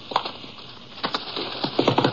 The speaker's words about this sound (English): And in response to the whistle, the horses trotted up to him.